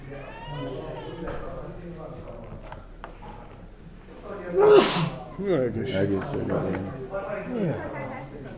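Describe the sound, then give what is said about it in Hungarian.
A single loud sneeze bursts out partway through, a sharp noisy blast, while people keep talking before and after it. “Egészségedre.”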